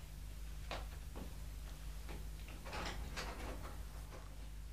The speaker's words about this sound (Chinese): 等我出去开门睇下系边个嚟先。